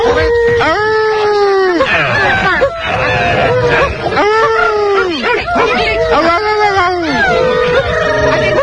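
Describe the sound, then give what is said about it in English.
A crowd of people, many of them men, imitate dogs in a studio, overlapping howls and yelping barks rising and falling together in a loud, continuous chorus of human voices mimicking a pack. “I hear a lot of human beings making dog sounds. I hear a lot of guys going, arr!”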